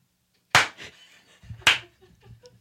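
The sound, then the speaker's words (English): A robotic steel arm claps twice, about a second apart, each clap a sharp, loud, bright smack that decays quickly, with a faint low mechanical hum underneath after the first clap. “Darling, that robotic arm is clapping wonderfully.”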